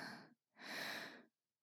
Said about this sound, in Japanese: 私の吐息、感じるでしょ？今、私はあなたのとても近くにいるのよ。